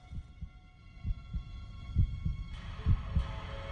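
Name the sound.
heartbeat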